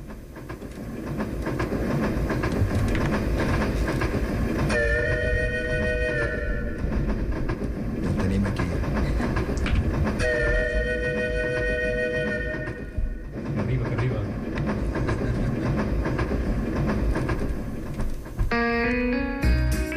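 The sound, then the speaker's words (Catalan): A train rumbles steadily along the rails with a clickety-clack rhythm, loud, and two long whistle blasts sound over the running noise. “Som-hi, doncs. Pugem al tren.”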